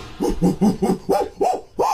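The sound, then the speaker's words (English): A person imitates a monkey with about seven quick hooting calls in a steady run, each voiced note arching up and down in pitch, the later ones louder and higher. “Make your monkey noises.”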